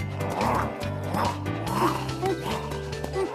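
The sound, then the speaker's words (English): Excited, high-pitched puppy-like barks and yips from Clifford, a king-size dog acting like a puppy again, repeat in a quick, uneven series, fairly loud over a busy, humming background. “He's acting like a puppy again.”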